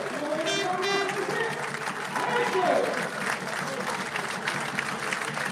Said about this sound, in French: Et bien sûr, Romuald Segui, derrière qui fait sa sortie, lui aussi, ovationné par le public de Maurice Boyot.